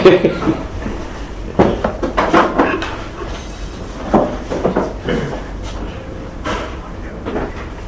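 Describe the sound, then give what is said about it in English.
A door is handled and pushed shut, with several clunks and knocks spread over a few seconds, against a rumbling background and faint indistinct voices. “I'll take one picture. And then we'll close the door.”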